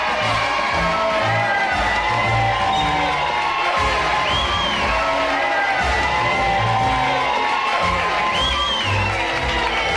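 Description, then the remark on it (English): A large crowd cheers and whoops continuously as Ernest Worrell gets ready to take on Splash Mountain, with overlapping shouts and high rising yells over a dense, loud roar of voices that never lets up. “Here he comes, and this crowd is ready for it.”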